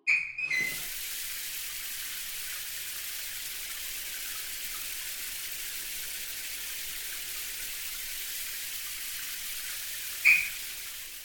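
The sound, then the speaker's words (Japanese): A shower runs in a steady, even hiss of spraying water for about ten seconds, moderately loud, as someone is rinsed off with the shower and soap, with brief clatters near the start and just before it ends. No one speaks. “お兄ちゃん、最後にシャワーと石鹸で洗い流そうね。”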